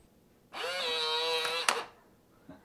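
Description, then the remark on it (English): A smart lock's small motor whirs with a steady, buzzy hum for about a second, rising briefly in pitch at the start, then ends in a sharp click, followed by a faint tick, as it unlocks the back door of a roughly 100-year-old home in Dormont after a Google voice command. “Open, unlock, back door.”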